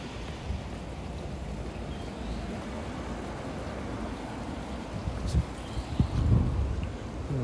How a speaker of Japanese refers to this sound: 今ねここ階段なんですよ。階段をね歩いていってる感じでございますけれども、どんどん名神高速道路の音がね聞こえてくると思うんですけどね、どうでしょう。